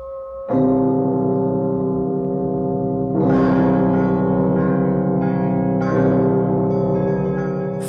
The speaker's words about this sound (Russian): Всюду ударяют крайние обедни, и привычное ухо различает звук каждого колокола. Вот у Николы, вот у Бориса и Глеба, вот у Федора Студита, вот наш родной колокол.